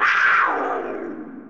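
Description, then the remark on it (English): A single drawn-out big-cat roar, loud, sliding downward in pitch, with added reverb trailing into a reverberant tail as it fades. “So as you can hear, that was like a cougar or something with some reverb added to it.”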